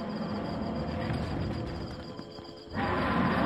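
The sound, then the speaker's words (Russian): A deep, rumbling roar of a rakshasa demon woken in the night fills the moment, loud, rolling on for a few seconds before surging again with fresh force near the end. “Проснувшись среди ночи и почувствовав человечий запах, Ракшас покрутил своей головой, поскреб когтями свои грязные, спутавшиеся длинные волосы на теле и издал ужасающий рев, от которого содрогнулось все кругом.”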